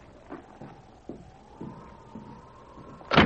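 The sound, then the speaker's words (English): A sergeant flings a cabin door open with a sudden loud bang, after a few soft, evenly spaced thuds like footsteps over a faint steady whine. “The sergeant threw open the door of the cabin.”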